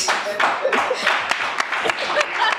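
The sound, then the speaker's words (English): Steady applause with dense, overlapping claps, joined by crowd voices and a few cheers rising through the noise, loud and continuous throughout. “Not the applause.”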